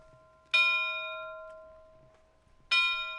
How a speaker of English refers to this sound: They chime eight bells, signifying the end of the Lost Mariner's Watch.